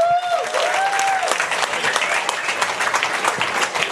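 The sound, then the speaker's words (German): An audience applauds steadily as VfL Bochum players Philipp Hofmann and Timo Horn are introduced as guests, dense clapping filling the space, with a brief sustained whistle-like tone at the start before the clapping carries on alone. “Applaus!”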